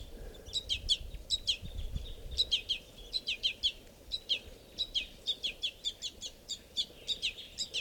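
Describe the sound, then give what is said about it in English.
Rapid, repeated high-pitched chirps from a begging baby bird sitting right next to an adult male at a water hole at 7:20, insistent and coming in quick bursts over a low outdoor rumble with no talking. “I'm sitting right down at the water, and this is a begging baby sitting right next to a male.”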